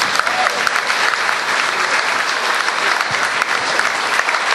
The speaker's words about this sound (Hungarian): Nekik is kérnénk egy nagy-nagy tapsot, és a lányoknak is.